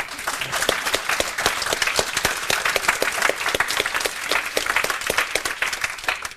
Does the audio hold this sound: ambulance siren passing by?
no